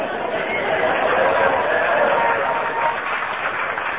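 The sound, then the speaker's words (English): A live audience claps steadily throughout as a contestant plays to them, a dense, continuous wash of applause mixed with crowd murmur and chatter, with no single voice standing out. “Ross is playing to the audience, that's why they're clapping.”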